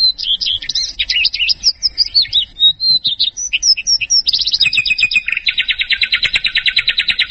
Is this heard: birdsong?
yes